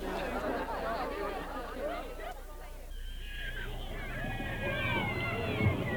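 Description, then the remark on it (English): A busy street crowd in Rome chatters in overlapping, indistinct voices as it returns to its business, a steady babble of many people talking at once, with a few higher tonal calls rising above the murmur in the second half. “The crowd returns to its business, chattering.”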